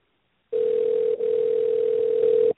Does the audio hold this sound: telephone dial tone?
yes